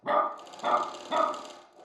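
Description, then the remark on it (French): A dog barks three times at a steady, evenly spaced rhythm, each bark loud, with brief pauses between them and no one speaking. “L'animal aboie toujours en s'interrompant à intervalles réguliers.”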